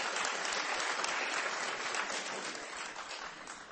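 An audience filling an auditorium claps steadily, a dense, even wash of applause that holds its level for a few seconds before easing slightly, with no voices standing out.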